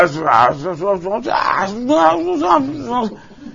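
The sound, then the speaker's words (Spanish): A man's voice imitates grunting: several seconds of fairly loud, wavering groans and growl-like noises run together with no real words, then trail off at the end. “Gruñidos.”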